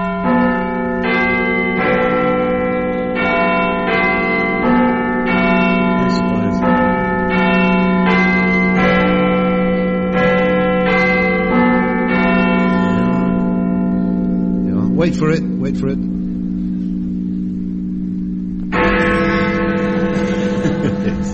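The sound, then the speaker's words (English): Bells ring out the Westminster chimes, slightly out of tune, in a steady sequence of resonant strikes that hang and overlap, pausing before one last loud peal; a voice speaks briefly. “Would you like to hear the Westminster chimes? As they should be. Here they are, slightly out of tune as ever.”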